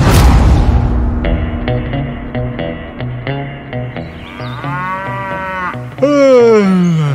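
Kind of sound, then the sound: animal, cattle mooing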